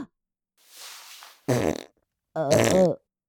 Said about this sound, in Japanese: 思わずおならが。ああ、そうよね。ロングスカートの中、おなら臭が充満してきついのよね。